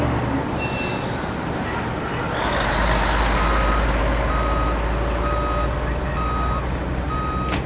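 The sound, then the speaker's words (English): Heavy diesel truck engines rumble steadily on location at a busy work site, heard through the tree line with the windows down, swelling louder partway through, while a reversing alarm repeats evenly spaced high beeps over the low, continuous drone. “Through the tree line, with the windows down, you just hear the diesel engines, the hustle and bustle on location, keeping an eye out for your fellow workers walking across, doing what they have to do.”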